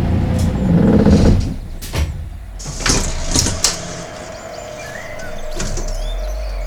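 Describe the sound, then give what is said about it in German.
A bus engine rumbles heavily and then eases off, followed by several sharp hissing bursts of air brakes and door mechanisms as the vehicle stops at a roadblock in a forest, settles to a halt and idles. “Ich muss anhalten.”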